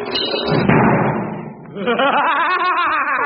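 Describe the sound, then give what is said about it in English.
A door swings shut by itself and lands with a heavy thud early on, followed by a voice carrying on in lively, laughing tones. “The door's closing by itself.”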